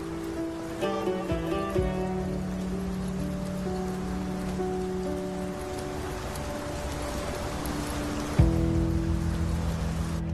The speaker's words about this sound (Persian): بارون میاد، بیاین تو. بیاین تو.